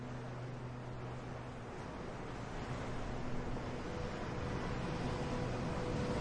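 Gentle waves of the green sea of Marinus wash steadily against a silver shore in the early morning, a soft continuous surf hiss with a faint low hum beneath it and no voices.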